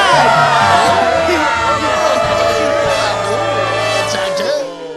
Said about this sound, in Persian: همه به من توجه کنید، همگی به افتخار آقای دافی به بهترین رئیس دنیا تشویق کنید.